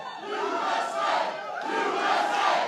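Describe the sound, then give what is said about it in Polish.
A large rally crowd roars and chants in unison, the loud massed voices swelling in rhythmic waves, with no individual speech standing out. “Na wiece przychodzą tłumy.”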